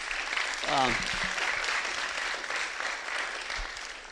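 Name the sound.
audience round of applause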